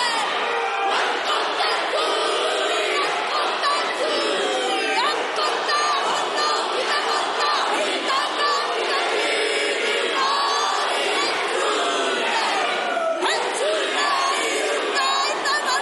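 A large group shouts a forceful, rhythmic Maori haka war chant in unison in the parliament of New Zealand, loud and continuous, with sharp stamps or slaps punctuating the bellowed voices amid a crowd-like roar.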